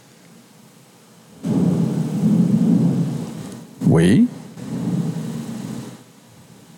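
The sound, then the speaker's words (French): Deep thunder rumbles low and heavy through a storm, rolling in waves with a brief spoken word cutting in midway, then the rumble continuing before fading out. “Vous l'entendez, là, ça a shaké ici.”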